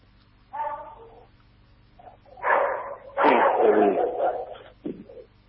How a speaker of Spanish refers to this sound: Perdóname acá que tengo unos perros.